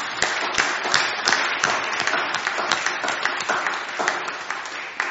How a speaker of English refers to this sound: When we do that, God is glorified. Give a clap to Jesus, a clap of glory to Jesus.